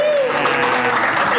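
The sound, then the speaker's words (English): An audience cheers and applauds in a dense, steady wash of clapping and shouting that stays loud and unbroken from start to finish, with no single voice standing out. “Let's make some noise, goddamn.”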